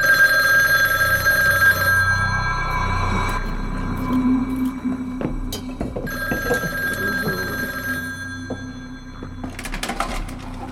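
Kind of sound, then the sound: signal or alarm, telephone ringing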